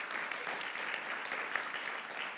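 A crowd applauds a preacher for his message, a dense wash of many hands clapping at an even, sustained loudness with no talking over it.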